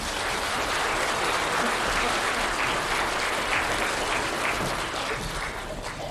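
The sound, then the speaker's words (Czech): Sustained applause from the audience of an entertainment programme with comedian Felix Holzmann fills the whole stretch, a dense, steady patter of many hands clapping at even volume without letting up. “Podle potlesku je vidět, přátelé, že dnes tady máme dobré a sympatické obecenstvo.”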